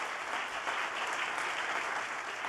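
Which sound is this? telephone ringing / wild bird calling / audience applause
audience applause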